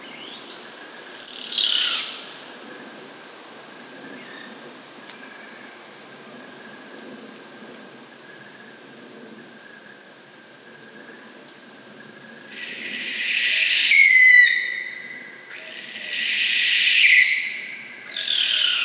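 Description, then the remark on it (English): Three loud, piercing descending screeches from a sooty owl ring out, one early and two close together near the end, over a steady high drone of insects in a quiet night setting. “There's some other spectacular calls we've recorded, like the sooty owl.”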